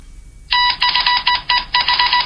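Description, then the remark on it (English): Rapid electronic beeping like Morse code, with bright, buzzy tones sounding in short uneven bursts separated by brief gaps, starting abruptly after a moment of quiet and carrying on without any voices. “Like a Morse code? Yes, it is.”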